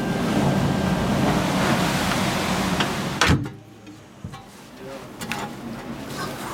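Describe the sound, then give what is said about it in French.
Steady roar of wind and surf is abruptly cut off by a heavy metallic thud as the watertight hatch door of a submarine slams shut before diving, followed by muffled quiet and a few faint clanks inside. “Il est temps de s'abriter dans les entrailles du sous-marin et de refermer derrière nous la porte étanche, notre unique rempart.”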